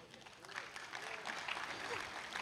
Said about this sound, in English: Hey, if 30% of you are going to clap, the rest of you better, because it's just considered rude if you don't.